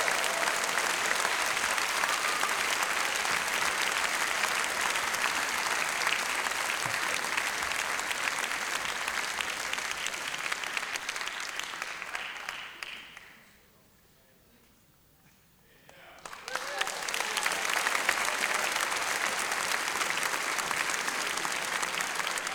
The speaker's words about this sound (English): And here he comes. Then a big round of applause.